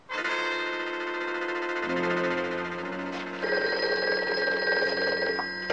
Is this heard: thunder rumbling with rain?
no